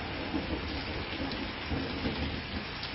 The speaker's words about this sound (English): The rain continues to pour down.